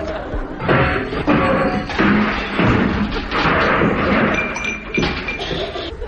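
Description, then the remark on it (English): A bicycle crashes into an office in a long, loud clatter of thuds, bangs and metallic clinks that tumble over one another for several seconds before trailing off. “You rode straight into my office.”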